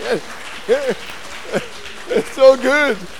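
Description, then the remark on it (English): A church audience claps in a steady wash of noise while several voices call out and cheer in rising, falling whoops over the top. “I'm going to ask, yes, give her a clap.”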